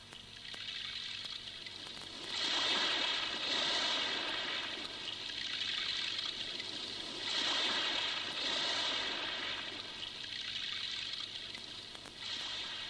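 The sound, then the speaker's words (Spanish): Heavy swell of a dark, rough sea at night rolls in, long white waves crashing in broad, hissing surges roughly every few seconds, a steady roar of churning water filling the gaps between them, with no voices. “Un ancho mar de fondo que vuelve a caer en estrépitos de blancura. El mar negro está fuerte.”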